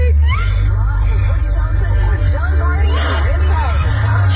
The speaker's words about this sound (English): Is she crying? She's crying.